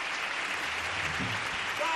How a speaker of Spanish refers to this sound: La actuación de su coro va por él y el aplauso del Falla para uno de los más grandes que ha dado esta ciudad y que ha dado esta tierra, Andalucía, don Julio Pardo Melero.